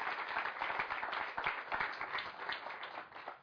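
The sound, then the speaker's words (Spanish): An audience breaks into sustained applause for the Virgin, a dense wash of many hands clapping at a steady loudness for a few seconds, with no voices standing out. “Pues un aplauso para la Virgen.”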